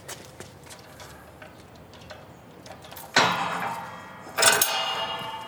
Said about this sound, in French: Bien, allez, on va ouvrir la porte. Allons-y.